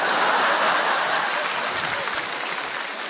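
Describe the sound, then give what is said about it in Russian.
An audience in a hall applauds steadily during a performance, dense clapping merging into a continuous hiss that stays loud throughout and eases off only slightly toward the end. “Это зал аплодирует тоже.”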